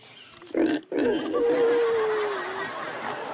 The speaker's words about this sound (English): Dad, Scruffy is not your typical dog. That would be a pig.